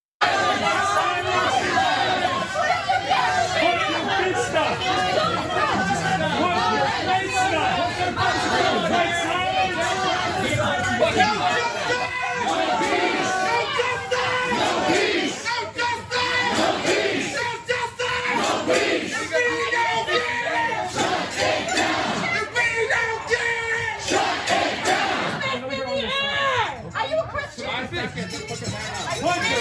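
A dense Black Lives Matter protest crowd in the Columbia Heights area yells and chants nonstop at a woman at a restaurant, urging her to raise her fist in solidarity; many overlapping voices shout loudly, with no pause in the clamor throughout.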